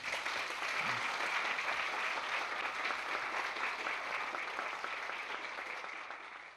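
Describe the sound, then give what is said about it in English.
Sustained applause from a large audience, a dense, even wash of clapping that holds steady throughout and tapers only slightly near the end, with no voices standing out. “Thank you very kindly for your heartwarming applause.”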